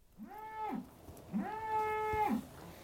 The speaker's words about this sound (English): We're next to a group of cows, as you may hear.